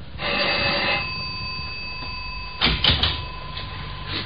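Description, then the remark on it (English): The doorbell of apartment 6G on the sixth floor rings in one buzzing, steady electric burst lasting about a second, followed after a pause by a brief clatter of sharp knocks and rattles. “Find 6G and ring the bell.”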